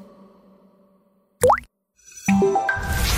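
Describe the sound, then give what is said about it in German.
A single crisp water drop plops once, clear, with a quick rising pitch, set between a faint low hum and a burst of broader noise afterward. “Tropf.”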